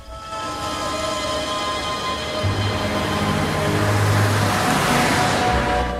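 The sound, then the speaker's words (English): A steady, loud rumble of vehicle engines fills the scene, with a deeper motor hum swelling partway through as cars seem to pull away. No one speaks. “watches as they get in their cars and drive off.”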